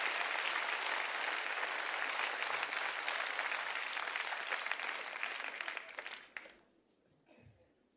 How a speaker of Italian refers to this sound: Un applauso a tutti, grazie.